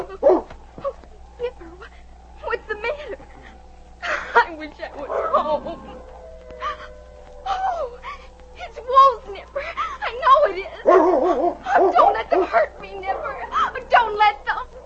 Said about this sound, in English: It was Nipper's barking that awakened her.